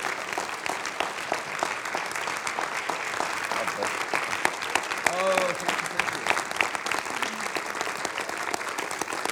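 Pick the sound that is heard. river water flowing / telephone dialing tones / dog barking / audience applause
audience applause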